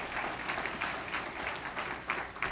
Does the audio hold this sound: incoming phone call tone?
no